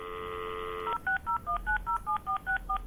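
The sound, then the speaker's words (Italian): A steady telephone dial tone gives way to a quick series of about ten short, two-pitched touch-tone beeps as a number is dialed to start a recorded phone call, evenly spaced and moderately loud, with no voices. “Per non lasciarvi però a bocca asciutta, alla fine di questo piccola registrazione della telefonata, vi darò io qualche spunto per colorare le uova in modo naturale.”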